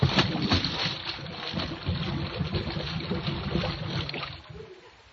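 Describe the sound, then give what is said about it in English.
A new Cadillac car plunges into a swimming pool: a heavy splash followed by several seconds of steady churning and sloshing, loud, with no voices, easing off and fading out at the very end. “Right into the water.”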